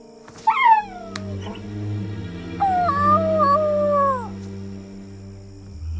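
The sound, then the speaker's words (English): A person crouching out of sight behind a fence imitates a dog: a quick, sharp yelping bark, then after a pause a long, wavering howl that trails off, fairly loud over a low steady background hum. “I heard a bark. Yeah, that was me. You were barking?”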